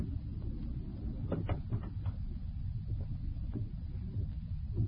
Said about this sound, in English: Close the door, Nishiko.